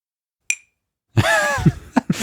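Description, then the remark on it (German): A single bright clink of a metal tool, from a tool set marked 6 to 11 mm, tapped against a glass, ringing briefly with a high, clear tone before a burst of throaty vocal noise, like a cough or groan, follows. “Ich will jetzt Geräusche machen, aber wenn ich die jetzt irgendwo gehen haue, dann ist eine Macke dran. Oh ja, nimm mal ein Glas.”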